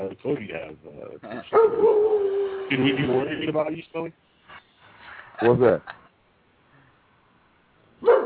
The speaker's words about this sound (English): No, damn dog. Barking for dog.